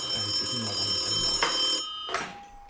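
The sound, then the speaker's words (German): A telephone bell rings with a bright, sustained metallic trill for nearly two seconds, a faint voice murmuring underneath, then it cuts off and two sharp clicks follow, like a handset being lifted. The call is from Tim Wiese. “Hä, warum klingelt jetzt das Telefon?”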